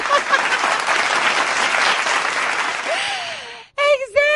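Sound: applause sound effect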